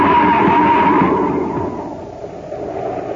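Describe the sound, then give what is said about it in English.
A car skids toward a cliff edge on a foggy highway, a high, sliding screech over a heavy rumbling roar, loud, then the noise drops away and fades within a few seconds. No one speaks. “We're heading for the edge. Huh? We're going over the cliff!”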